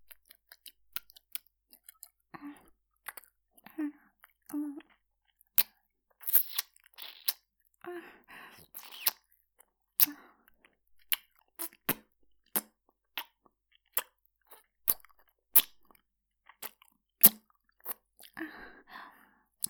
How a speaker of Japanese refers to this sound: このままどんどん耳舐めでお耳気持ちよくなって、ムラムラっとエッチな気分になってくれると嬉しいな。